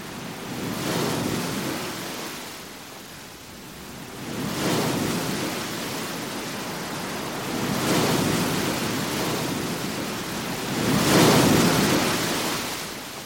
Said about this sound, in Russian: Волна бросила нас в пролив. Гребите, друзья! Но другая волна старается вытолкнуть Арго обратно.